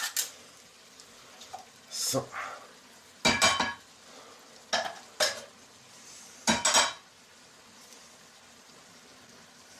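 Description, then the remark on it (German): A tin can is handled and scraped in a series of short, bright metallic clinks and scrapes, coming in separate bursts with pauses between, while someone briefly speaks a single word. “Das ist eine Dose und kein Papier und kein Plastik.”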